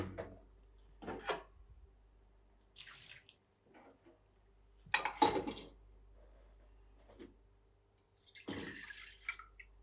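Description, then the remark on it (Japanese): Liquid splashes and drips into a metal pot in several short bursts, mixed with light clinks of kitchenware, with no one talking; the liquid is being put in the pot to warm it up on maximum heat. “お鍋に入れてちょっと温めてみる。”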